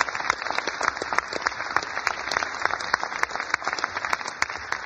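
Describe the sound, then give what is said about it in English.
A crowd applauds steadily, a dense wash of many hands clapping at once with sharper individual claps popping out, holding a fairly even loudness for the whole stretch with no voices. “You got to hold your applause.”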